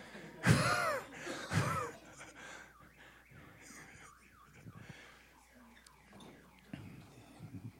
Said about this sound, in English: Alarm.